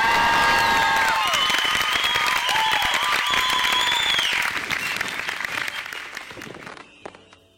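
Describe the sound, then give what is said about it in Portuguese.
An audience bursts into sustained applause with whoops and whistled cheers rising over the dense clapping, which stays loud for several seconds before thinning and fading out. “Palmas, palmas, palmas, palmas.”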